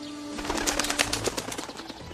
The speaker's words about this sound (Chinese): 这时候有其他几只鸟儿飞了过来。